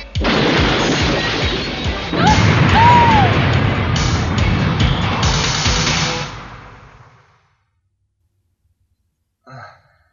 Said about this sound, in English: Now take, for instance, when Koji crashes into the convenience store and tries to save face by buying a microwavable meal. Here, take a listen.